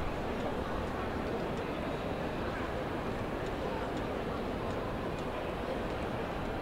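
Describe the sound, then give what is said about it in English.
A steady, dense murmur of many indistinct voices fills the large echoing Moynihan Train Hall, a continuous hubbub from a crowd of about 1,000 people downstairs milling about waiting for trains, with no single speaker standing out. “But I just want to play some of the ambient noise of the crowd downstairs.”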